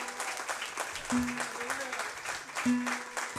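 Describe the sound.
Steady audience applause at a fado night in Évora, a dense crackle of many hands clapping throughout, with a couple of brief voices calling out over it.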